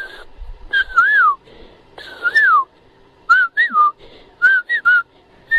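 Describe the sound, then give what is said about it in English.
A person whistles an imitation of cuckoo song: four phrases of clear, mid-pitched swooping notes, the later ones broken into short rising-and-falling chirps, with brief pauses between phrases. “And all of a sudden, you know, the cuckoos are singing.”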